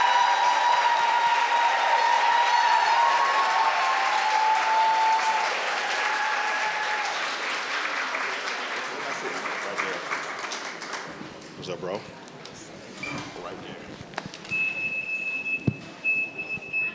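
A large audience at a Mahogany Books event breaks into loud, dense applause welcoming Jason Reynolds and Niall Bullock, holding steady for about ten seconds, then thinning into scattered claps and crowd murmur as it dies away.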